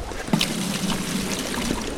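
Water sloshes and trickles close by as it's scooped and poured into a container, with a brief splash near the start and a steady wet dribbling afterward.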